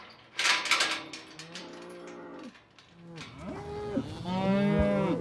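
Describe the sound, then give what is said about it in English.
Cattle moo repeatedly in a pen, several long, low bellowing calls overlapping one another, with a brief burst of rustling noise near the start and no talking. “Jeez, we got so many cattle ready all of a sudden,”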